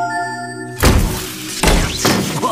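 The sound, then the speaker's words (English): A steady electronic hum gives way to two loud, heavy clunks about a second apart, each followed by a crackling, buzzing electrical sizzle, as a home security assistant locks the doors and electrifies them on command. “Doors locked and shocked.”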